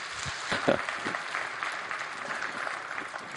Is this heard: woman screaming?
no